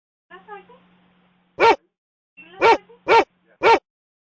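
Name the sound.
dogs barking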